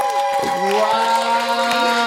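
An audience applauds steadily, a dense wash of clapping that holds at an even loudness throughout, with some sustained tones and crowd noise mixed in.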